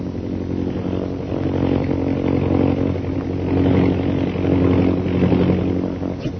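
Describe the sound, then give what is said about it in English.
A steady propeller-engine drone hums continuously, its low harmonic buzz swelling and easing slightly in loudness as the plane circles overhead above a group of men, with no voices. “He is circling over them. You see his plane?”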